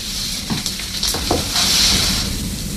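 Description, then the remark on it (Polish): A wood fire crackles in a fireplace after more wood is added, a steady hiss broken by scattered sharp pops and snaps at an even, moderate loudness, with no voices. “Cody dorzucił drzewa do kominka”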